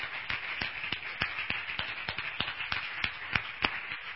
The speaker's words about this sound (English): So, amen. Let's just give her a round of applause. Amen. For her birthday.